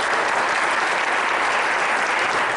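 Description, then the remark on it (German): A crowd claps steadily and loudly, a dense, sustained wash of applause from many hands that fills the whole moment without pause or voices. “Welch ein Stolz erfüllt sie, wenn sie richtig liegen und pünktlich die Hände zur Klatschgeste erheben.”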